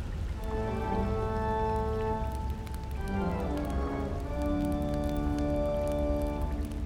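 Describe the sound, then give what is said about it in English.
Steady rainfall hisses and patters throughout a storm at an old opera house, its level constant, while sustained droning musical tones shift underneath. No one speaks. “The storm sounds like it's getting worse.”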